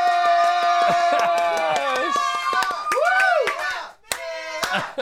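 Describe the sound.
A small group claps in a radio show's control room as a round of applause for a colleague, sharp irregular hand claps running steadily for several seconds under loud, tonal whooping and cheering voices, with a brief dip before the clapping resumes.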